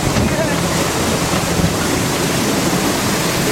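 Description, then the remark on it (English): A large waterfall in a jungle roars steadily, a dense, continuous rush of falling water that stays loud throughout with no breaks or changes in intensity. “We have several waterfalls in our jungle, but Schweitzer is our largest, our most powerful, and our most beautiful, I think.”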